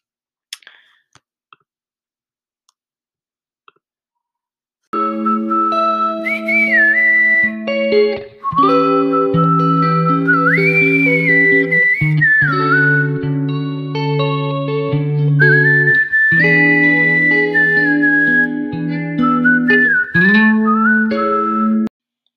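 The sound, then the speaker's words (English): After a few quiet clicks, a man's bright whistled melody starts up in a song and carries a jaunty, wandering tune over steady, full instrumental backing, loud, with no singing. “And his whistle is kind of like a cartoon trying to act unsuspecting in like an old TV show.”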